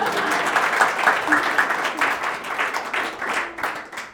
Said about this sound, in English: so you can congratulate her too. Give her a clap.